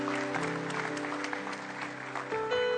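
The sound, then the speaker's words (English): A crowd applauds steadily throughout, cheering on people who raised their hands as they come forward, dense clapping with a few voices cheering, while sustained musical tones hum underneath the whole time. “Can we give them a big hand as they're coming? Let's just cheer them on in Jesus' name.”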